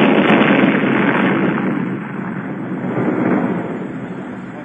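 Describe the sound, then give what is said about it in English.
Fireworks make a loud, sustained explosive roar, a dense rumbling blast with no separate bangs, slowly easing in strength over a few seconds and heard alone without any voices. “Well, I heard the fireworks, but it sounded like there was an explosion.”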